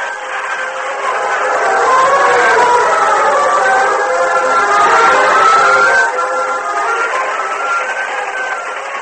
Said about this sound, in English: A few minutes later, Cliff and Gopher stood beside the moonlit tracks, watching the train disappear in the distance.